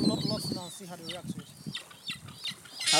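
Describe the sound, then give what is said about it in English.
Harsh, wavering seagull calls repeat several times over a few seconds, loud, with gusty outdoor noise and hissy bursts in between. “He sounds like a granddad seagull.”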